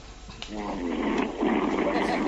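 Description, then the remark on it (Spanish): A caller from Sevilla who has fallen asleep on the line snores: a man's low, raspy snoring drones over a thin, telephone-quality line, a steady rumbling breath that swells louder toward the end amid a hiss of line noise. “… se ha sobado. No. Está echado. En el mejor. Está roncando”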